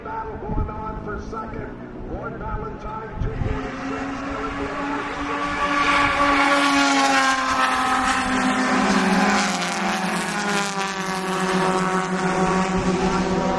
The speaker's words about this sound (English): That was four cars that went by. They're all sort of in sync, sounding the same almost.